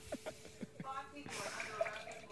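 Apple cider vinegar and water being poured into a container: a few soft drips at first, then a steady, quiet splashing stream that fills the rest of the moment.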